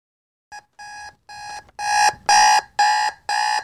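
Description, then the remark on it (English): An alarm clock rings in a rapid series of shrill electronic beeps, about seven bursts in a row, growing louder and more insistent toward the end, with no voices. “He releases a scream so loud he swears the windows shake as he jumps out of bed, swears loudly as he stomps on the alarm clock”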